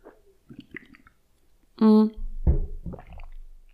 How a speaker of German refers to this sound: Boah, meine Stimme kratzt gerade, so ich muss mal kurz was trinken.